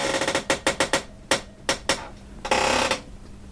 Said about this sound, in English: This is Squeaky, my chair. Introduce yourself, Squeaky.